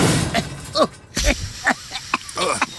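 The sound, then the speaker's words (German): A prototype gadget, a device meant to detect and classify boogers, explodes: a sudden explosive bang with a deep thump, followed by a run of sharp shattering crashes and crackling bursts. Brief vocal sounds are mixed in between the impacts. “Okay, der Prototyp explodiert, aber stilvoll.”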